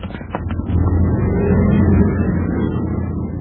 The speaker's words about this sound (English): Hey, look out. Here comes a car. Run.